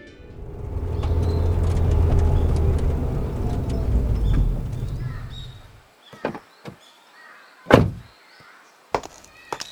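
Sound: car arriving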